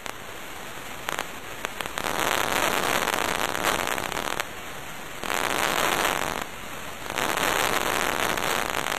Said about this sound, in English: These are the sounds of a single neuron firing inside a monkey's brain as it reaches for food. By studying the responses in these neurons when stimulated by electricity, Miller tries to better understand the signals created as the monkeys move.